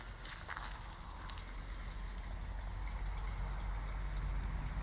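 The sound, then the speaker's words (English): A steady, soft trickle of running water by a pond plays continuously, with a low rumbling background and a few faint brief splashes or knocks near the start. “Can you hear the water? And just by the pond.”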